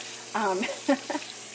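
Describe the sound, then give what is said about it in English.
Water runs steadily from a tap while hands are washed, an even hiss lasting throughout, with a few brief voiced sounds from a person over it. “Wash my hands yet again.”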